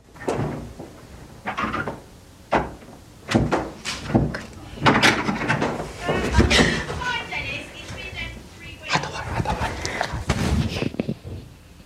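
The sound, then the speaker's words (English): A door handle jiggles and a locked blue door rattles in its frame, a series of sharp, uneven knocks and clatters, repeated over and over as it refuses to open. “Rich tries the blue door, but it's locked.”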